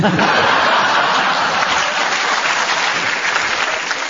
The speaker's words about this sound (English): Your round of applause there endorsed that they enjoyed what you said, Clement.